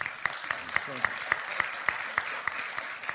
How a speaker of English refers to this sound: That's good. I hope some foreign journalists were applauding now, because it's so obvious, it's so true.